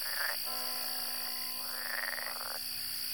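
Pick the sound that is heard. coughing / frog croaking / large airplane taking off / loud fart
frog croaking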